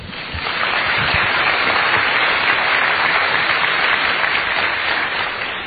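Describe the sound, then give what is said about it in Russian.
Audience applause fills the whole stretch, a dense, steady wash of many hands clapping at an even loudness, with no voices over it. “Дайте ему аплодисменты.”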